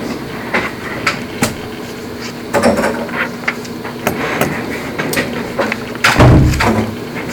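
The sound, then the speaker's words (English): Someone knocks on a door again and again in short, uneven bursts of sharp raps, fairly loud, ending with a heavier thumping knock over a low background rumble. “Can somebody get the door?”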